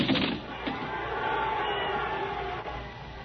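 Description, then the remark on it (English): A steady, loud wash of panicked crowd noise, many voices shouting together over a deep, continuous earthquake rumble, with a heavier burst at the start and no pauses throughout, as the crowd panics and runs. “Another earthquake! It was pure providence. The crowd panicked and ran.”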